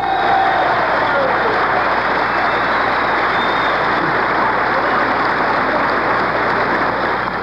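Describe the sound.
Steady, loud applause from a crowd in Kansas City or Detroit for President Carter's speech calling for cooperation to solve the nation's energy crisis, a dense wash of clapping that barely varies in level, with a faint tone and some murmured voices underneath.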